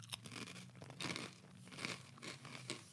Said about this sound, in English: I have a few homemade pita chips to go with this dip, so there'll be a little bit of crunching.